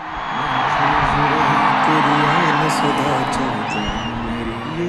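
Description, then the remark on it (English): A huge crowd inside a cricket stadium in Gujarat, India, at a Namaste Trump rally for Donald Trump roars steadily, a dense wash of cheering with whoops and shouts rising above the din, loud and sustained throughout. “That's the sound of a crowd inside a cricket stadium, and those baseball caps don't say Make America Great Again, they say Namaste Trump.”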